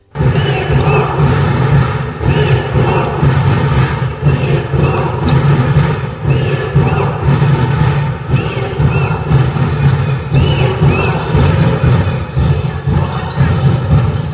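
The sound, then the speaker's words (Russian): Home basketball fans in packed stands roar in support of their team during a match against the visiting University-Yugra team, a dense, loud wall of cheering and shouting with no break, heavy in the low end and unchanging in level. “Как же наши болельщики поддерживали баскетболистов, давайте послушаем это.”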